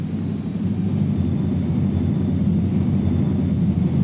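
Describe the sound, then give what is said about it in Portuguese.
The twin jet engines of an English Electric Canberra light bomber and reconnaissance aircraft roar in a steady, heavy drone, loud, with a deep rumbling low end that holds constant throughout without any voices. “Uma das mais famosas e prematuras imitações foi o Canberra da English Electric, um bombardeiro leve e avião de reconhecimento.”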